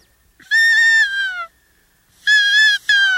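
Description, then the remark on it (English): Two nasal, mewing cow elk calls blown on a game call, loud; the first lasts about a second, the second is similar but briefly broken near its end. No talking. “So if you make a sound like a cow or a calf, this attracts them, too.”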